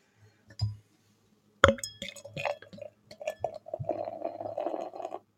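A beer glass of Kellerbier knocks sharply against a hard surface, followed by a few lighter clinks and some soft liquid sloshing and handling noises as the glass is held up against the light, with no talking.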